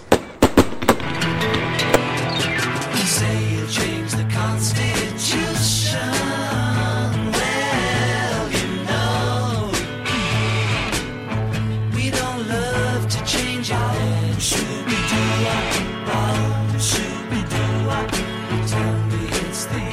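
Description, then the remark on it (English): Patriotic fireworks going off in a dense, continuous barrage, with sharp bangs and crackles layered over whistling, gliding tones that rise and fall throughout, loud. “Okay, now back to the patriotic sounds and spirits of fireworks.”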